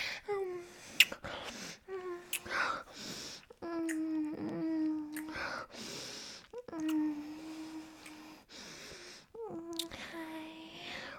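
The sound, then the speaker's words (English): A puppy whimpers and whines in a run of short, pitched cries that rise and fall, broken by breathy snuffles and sniffs, with no talking. “Your little pup wanted to say good morning.”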